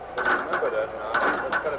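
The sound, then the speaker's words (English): Turnstiles at Yankee Stadium clicking and clattering as crowds pour in, over a steady murmur of crowd noise, with a few brighter mechanical bursts rising out of the busy babble at irregular intervals. “You could chart it by the sound of the turnstiles at Yankee Stadium as the crowds poured in.”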